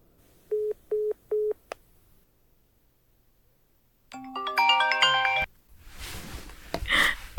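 Three short, evenly spaced phone dialing beeps as a FaceTime call is placed, then a pause before a bright melodic call-connecting chime rings out clearly, followed by soft rustling noise.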